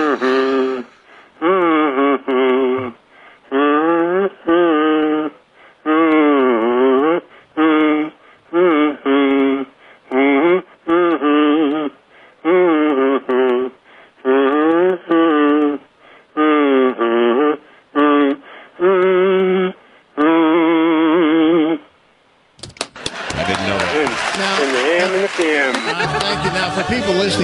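A professional-grade kazoo, a special model with a lot of wear and tear, buzzes out a tune in short, nasal notes with sliding pitch, played steadily for about twenty seconds before a loud, hissing burst of noise takes over.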